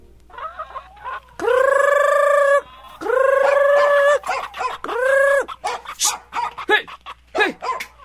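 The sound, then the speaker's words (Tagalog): A dog barks repeatedly at a flock of kept chickens, with long drawn-out calls followed by a flurry of quicker, choppy barks and squawks as the birds get stirred up and scatter. “Umalis kang aso ka! Tinatahulan mo pa ang mga alaga kong manok!”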